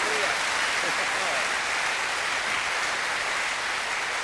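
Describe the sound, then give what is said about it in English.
Steady applause from a crowd clapping for the Lord during a sermon, a dense crackle of many hands clapping at an even level throughout with no pauses, a faint voice briefly audible at the start. “I hope you are clapping the Lord and not me.”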